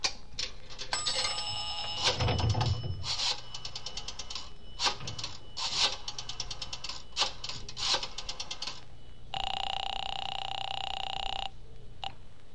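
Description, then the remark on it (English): Rapid mechanical clicking in uneven bursts, like a rotary phone being dialed, in a drugstore phone booth calling an apartment building, followed by a steady buzzing ring tone lasting about two seconds, then a brief final chirp. No voices. “I looked up the Roxmore Apartments in the book and dialed the number.”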